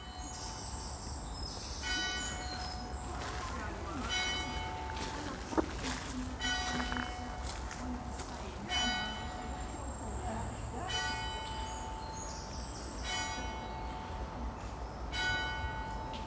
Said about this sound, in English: I was lucky enough to be able to record the bell at Corr Abbey. Corr, by the way, is Q-U-A-R-R, Corr Abbey. So have a listen to the bell.